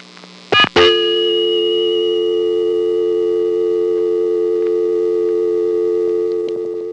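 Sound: telephone dial tone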